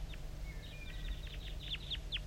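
Rapid chittering notes from a wild bird near calling decoys: a quick series of short, high, downward-sweeping chirps in irregular bursts, plus a thin whistled tone, over a steady low rumble.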